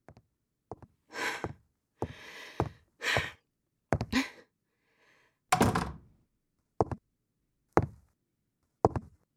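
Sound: door being shut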